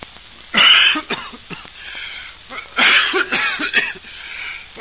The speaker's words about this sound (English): Were you coughing?